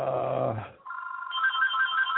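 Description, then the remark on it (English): A telephone rings with an incoming call on a second line, an electronic trill: a steady mid-pitched tone joined by a rapidly pulsing higher beep. A brief whiny, warbling sound comes just before it, and no one speaks. “Now I got phone calls coming in.”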